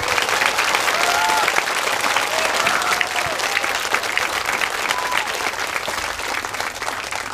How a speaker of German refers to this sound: Und wir haben hier viele Leute vor uns sitzen und ich glaube, wir haben vorher gesagt, die sollen nicht ganz so laut sein, damit ihr uns da an den Endgeräten auch versteht. Aber einen Applaus nehmen wir, glaube ich, mit für den Anfang, oder?